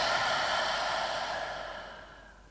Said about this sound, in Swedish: Fokusera ljudet av andetaget. Hur det kommer. Hur det går. Och pausen när det vänder. Ta ett djupare andetag in och andas ut.